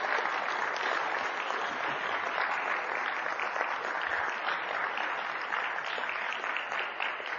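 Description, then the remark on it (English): A crowd claps steadily in sustained applause for a woman being thanked and honored, a dense wash of many hands at an even, fairly loud level that holds for several seconds before easing slightly at the end. “So will you join me in just giving her a round of applause?”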